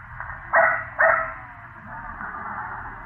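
A dog barks twice in quick succession, two sharp, fairly loud woofs about half a second apart, heard through a thin, narrow-band old recording with a steady hiss underneath.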